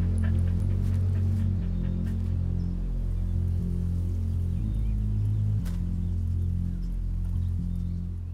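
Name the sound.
dog panting and whimpering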